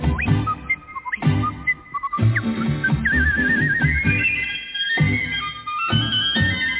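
A bright whistled melody warbles and leaps between high notes in a yodel-like style, carried over steady instrumental music with a rhythmic beat, fairly loud and continuous throughout.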